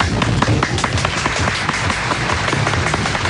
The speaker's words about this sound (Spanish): Aplausos para él, ¿no?